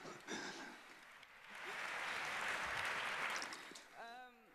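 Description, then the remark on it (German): An audience in a hall, watching a presenter build electronics on stage, breaks into steady applause that swells and holds for a few seconds, a dense rush of clapping, before a voice begins speaking as it fades. “Applaus im Saal.”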